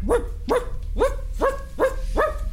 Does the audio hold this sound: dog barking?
yes